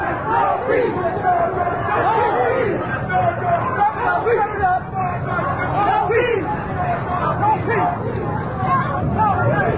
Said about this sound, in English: So far, I've seen no signs of any physical contact or conflict of any sort. Just loud, boisterous chanting as the crowd once again rounds the corner.